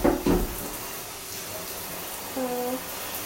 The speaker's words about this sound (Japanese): ちょっとシャワー出すよ。うるさいかな。冷た。もうなんでシャワーってさ、最初出るお湯がさ、冷たいの？本当に嫌なんだけど。冷たい。